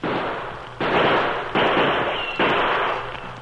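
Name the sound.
gunshots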